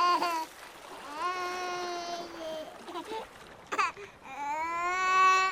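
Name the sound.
infant crying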